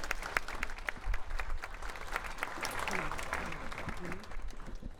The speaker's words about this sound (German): Ein Applaus bitte.